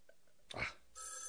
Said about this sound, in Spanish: está sonando el teléfono.